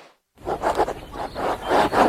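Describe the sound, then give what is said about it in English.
Scratchy strokes of an antique fountain pen moving across linen paper as someone journals in a park, a steady series of short rhythmic scrapes that start after a brief moment of silence, with no voices. “The sound of your antique fountain pen gliding across linen paper as you journal in the park.”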